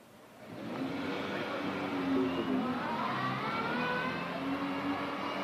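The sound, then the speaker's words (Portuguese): A car engine roars up fast as the car enters a street at high speed, its revving pitch climbing and holding loud over a steady rush of road noise for several seconds. “Como o carro que entra na rua em alta velocidade, é o receio de um novo ataque.”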